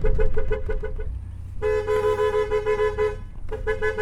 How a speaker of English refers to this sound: Yep, this is Hucky's method of herding goats, by car horn.